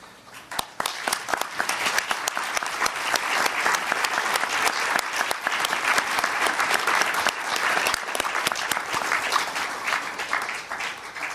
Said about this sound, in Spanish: Agradezco a todos ustedes el aplauso en homenaje a la señora Elsa Stamatopoulos.